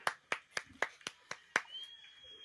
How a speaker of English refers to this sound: The Hulkster's applauding him! Oh!